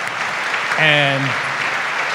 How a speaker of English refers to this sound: So again, a round of applause for this great panelist.